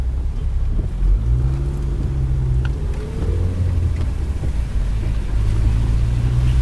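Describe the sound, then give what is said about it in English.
Steady, loud low rumble of a car interior with the windows down, driving on a wet road in a British summer, wind roaring and buffeting over a droning engine whose pitch shifts slightly throughout. “That's a lot more noise than we open the windows.”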